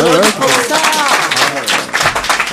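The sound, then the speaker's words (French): An audience claps in a steady burst of applause lasting a couple of seconds, mixed with overlapping voices and lively chatter. “Ah, bien, on peut les applaudir.”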